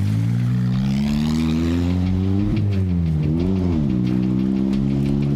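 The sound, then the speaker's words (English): A car engine revs hard and steadily, its pitch climbing, briefly dipping and surging again as the car takes off while Taliban men watch, loud throughout with no voices. “Okay, now see all these Taliban dudes, they're all impressed at this thing as it takes off.”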